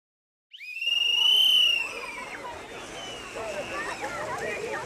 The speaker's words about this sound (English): The whistle blew, and the lifeguard yelled, "Everybody, out of the water for buddy check!"